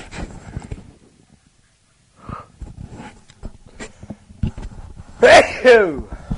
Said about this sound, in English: I'm going to sneeze, fair warning.